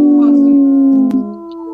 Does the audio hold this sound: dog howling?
yes